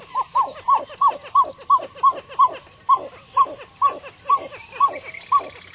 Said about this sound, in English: The call of this water bird, the pied-billed grebe, is unusual, isn't it?